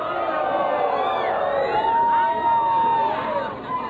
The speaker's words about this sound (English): Outside Shuhada Mosque, Aceh, thousands of people have gathered to watch. They're shouting insults and cheering.